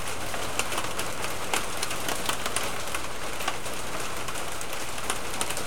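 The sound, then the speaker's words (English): Steady rain patters on a hard surface, with big, distinct drops smacking down irregularly over a continuous hiss. No one speaks. “And it's starting to rain, and it sounds like it's going to be big drops and noisy.”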